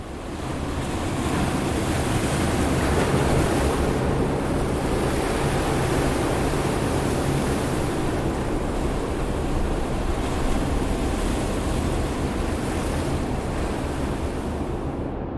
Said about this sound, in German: Ja, das war jetzt gerade das Rauschen von Meereswellen im Tank